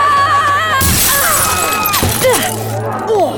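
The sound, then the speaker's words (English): A glass windowpane, weakened by gunshots, shatters with a loud crash as a person crashes through it, followed by a second burst and the ringing tinkle of shards scattering and falling, with tonal background sounds underneath. “She fired ahead to weaken the windowpane she was about to collide with.”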